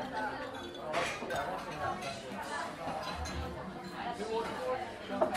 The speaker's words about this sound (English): These ice cubes in the other one now, because they've cooled this one down.